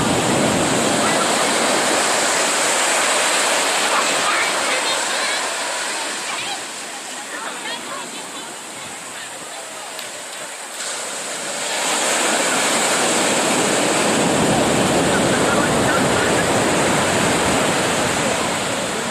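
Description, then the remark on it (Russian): Loud, steady roar of ocean surf with waves crashing at a beach in Santa Cruz. The wash briefly softens and thins midway, then swells back to full strength and rumbles on to the end. “Хорошие волны.”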